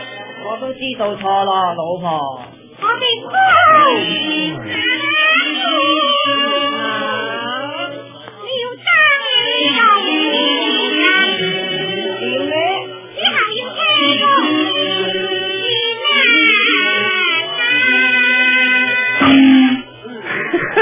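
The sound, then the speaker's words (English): Chinese music plays from an old record at 9 o'clock in the morning, thin and muffled, with high, nasal, sliding melodic lines that sound like operatic singing, continuing steadily for about twenty seconds. “That music comes from a record.”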